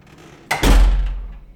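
A door swings shut with a single heavy thud, fairly loud, its low boom lingering briefly before fading into a quiet, empty room. No one speaks.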